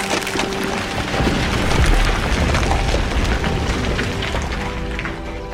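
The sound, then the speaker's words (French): Steady, dense rumbling noise from unstable cliff rock at the Chamoussé rockfall site in the southern Vercors, a deep low roar scattered with faint crackling and splintering ticks, plus a few thin humming tones, continuing for several seconds with no talking. “Et là-bas, on étudie les bruits émis par les roches, par les falaises, roches de l'éboulement.”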